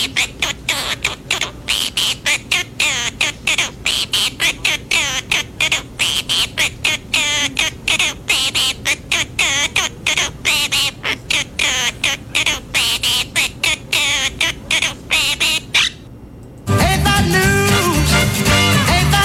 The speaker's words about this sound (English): This is a talented bird singing … song.